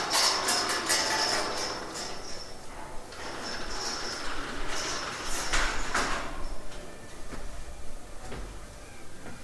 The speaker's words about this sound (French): Alors le bruit ici, c'est une indication horaire. Exemple, on entend une porte d'ascenseur, on sait qu'il est 6h05 du matin, je parle depuis les horaires.